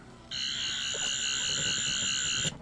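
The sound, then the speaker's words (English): A sonic screwdriver toy in its Doctor Who mode emits a steady, high-pitched electronic whine with a buzzing, layered tone, holding for about two seconds before cutting off abruptly, with no talking over it. “Do you have any curiosities what the screwdriver sounds like in the Doctor Who mode?”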